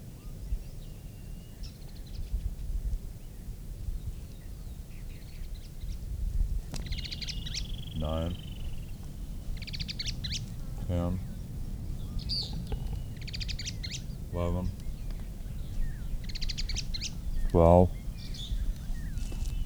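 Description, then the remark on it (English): A bird sings short, high-pitched phrases over a steady low rumble, broken by four rapid buzzy chatters spaced a few seconds apart, the last one the loudest. “At least the bird that is singing last.”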